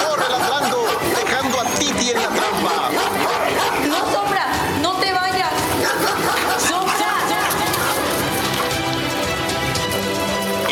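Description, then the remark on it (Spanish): A dog named Sombra barks in short bursts while running around a trap at night, amid a dense, hissing wash like steady rain, with indistinct voices chattering throughout; the whole scene stays loud and busy from start to finish. “De pronto, Sombra empieza a ladrar.”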